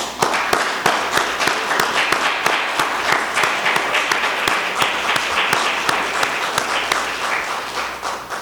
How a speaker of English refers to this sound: is that we give him a hearty hand clap. So would you join with me? Praise God with giving him applause for what he's doing.